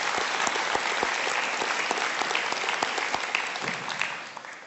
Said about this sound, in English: Very few churches can do what you do. So if you don't mind, can you clap for yourselves? Please do.